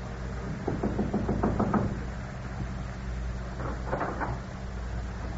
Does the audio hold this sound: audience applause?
no